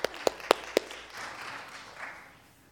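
Four sharp, evenly spaced hand claps ring out, then a softer, diffuse spread of church audience applause lingers for a couple of seconds before fading, welcoming a man who comes up to read scripture.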